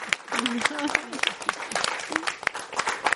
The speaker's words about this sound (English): So let's have a round of applause to our moderator. Oh, to everyone.